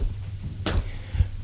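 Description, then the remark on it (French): A door bolt slides shut with a short, scraping metallic clack as a door is closed and locked, followed by a soft knock, all over a low steady hum. “La ferme avec la targette.”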